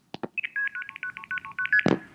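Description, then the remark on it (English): Two sharp clicks, then a rapid run of about a dozen short, steady two-tone beeps at a high pitch, internal telephone company signaling tones by which 4A toll crossbar switches communicated, heard in the background when dialing a long-distance call, ending in a final click. No one speaks. “So those were internal telephone company tones that were how the 4A toll crossbar switches communicated with one another.”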